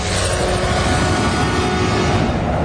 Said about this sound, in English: We have live coverage now from our Fox 11 chopper.